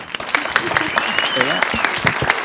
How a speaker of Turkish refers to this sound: Alkış.